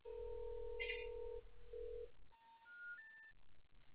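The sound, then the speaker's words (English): A steady telephone dial tone hums for over a second, cuts out briefly and resumes, then gives way to three short rising electronic beeps, clear on a phone line that is not working. “Phone line is not working.”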